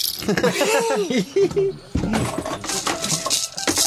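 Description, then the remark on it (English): A voice sounds briefly, then a rain stick is tilted: a steady cascade of tiny, bright pattering clicks that rustles on for a couple of seconds. “And here's a rain stick.”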